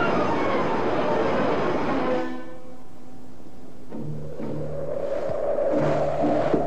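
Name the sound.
train running on rails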